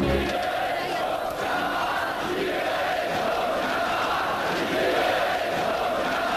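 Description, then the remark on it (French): A large crowd shouting protest chants in May 1968, a dense, continuous roar of many raised voices that stays loud and steady throughout, with no single speaker standing out. “Et voici justement les cris de mai 68 que l'on entend dans l'été.”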